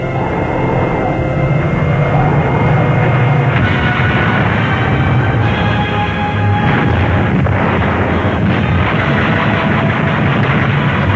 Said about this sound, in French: La dure bataille défensive continue à faire rage. Les avions soviétiques attaquent.